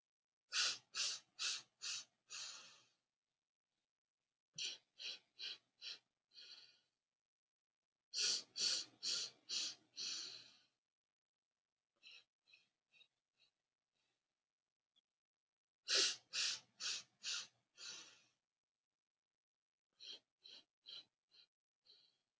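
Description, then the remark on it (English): Rhythmic, forceful breaths during a breathing exercise, delivered in quick bursts of four or five, repeated in sets separated by brief pauses, with a few softer, quieter breaths in between. “However, if you haven't been practicing regularly for about 2 years, you probably want to stick with the first one, which I'll do here for a few more breaths.”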